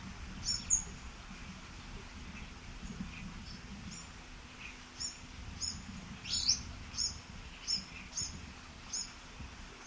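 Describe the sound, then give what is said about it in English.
A series of about ten sharp, high-pitched chip notes from an orange-crowned warbler during a territorial interaction with a bird of another species, repeated at an uneven pace over a steady low rumble, with no voices. “Actually, it was an interspecific interaction with an orange-crowned warbler.”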